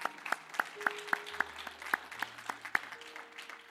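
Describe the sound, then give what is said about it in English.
A church audience claps steadily to thank those who did the decorating, many hands making a dense, even patter of sharp claps that holds a fairly constant level and continues without talking over it. “Yeah, let's give a round of applause to them.”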